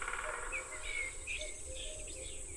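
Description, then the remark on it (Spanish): Quiet ambience of a well-preserved forest around a house in Balsaín, in the cold, humid Sierra de Guadarrama, with wood pigeons cooing, cuckoos calling, scattered high bird chirps and some wood sound over a soft, steady background hush. “Y esta es la biofonía propia de un bosque bien conservado. Los torcazos, los cucos, algún sonido de madera por ahí.”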